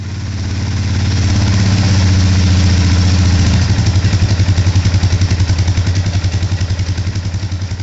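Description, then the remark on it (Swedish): A small tractor, called a mönke, idles with a steady low rumble that shifts after a few seconds into a distinct rapid chugging pulse, with no voices over it. “Din traktor är så jätteliten i där.”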